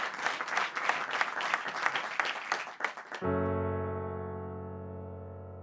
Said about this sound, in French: Les applaudissements s'il vous plaît pour cette chanson.